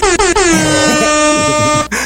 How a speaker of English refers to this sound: Give a little air horn for right there.